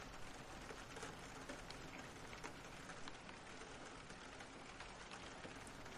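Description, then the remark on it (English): Steady, dense rain pours down during a storm at an old building, a constant hiss with scattered droplet taps across the whole stretch, moderately loud, with no voices. “This old building can't handle a drizzle. Let alone a storm.”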